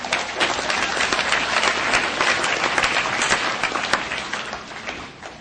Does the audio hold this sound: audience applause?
yes